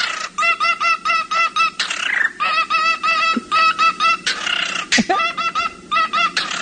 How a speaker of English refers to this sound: Here's a bird singing dubstep.